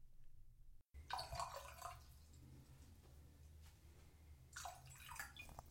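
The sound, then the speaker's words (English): Bourbon is poured into a glass in two short splashing bursts, a few seconds apart, fairly clear over a low steady background hum, with no one talking. “You always have to pour it twice.”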